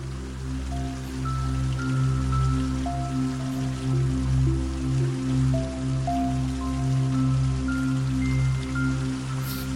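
Gentle, steady trickling water flows from an old stone fountain not far away, running continuously beneath a soft ambient music bed of sustained low drones and slow, sparse melodic notes, with no voices.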